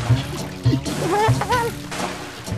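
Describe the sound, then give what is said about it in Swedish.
Water splashes and sloshes in several bursts as a very large pike thrashes at the surface, with thumping low knocks and a rising, whistling tone woven over the top. “Det var ett väldigt plask av en väldig fisk.”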